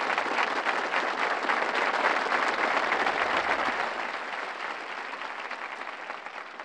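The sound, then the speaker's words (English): A crowd applauds with dense, steady clapping that holds strong for about four seconds, then eases slightly and continues at a lower level to the end, with no talking over it. “Now, you men ought to applaud that, because that is life.”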